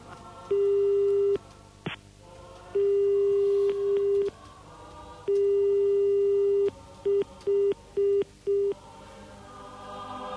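A telephone busy signal: a steady, loud electronic tone switching on and off, first in long bursts, then in a run of quicker, shorter beeps, with no voices.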